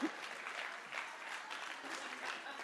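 An audience claps steadily, a dense, continuous patter of many hands with slight swells in intensity, lasting a few seconds with no voices.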